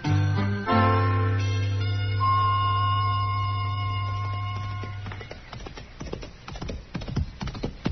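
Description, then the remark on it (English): A sustained musical chord fades out, and then the hooves of a horse ridden by Chester clip-clop in a steady, uneven rhythm, moderately loud, with no voices. “Well, that's a good-looking horse Chester's riding, man.”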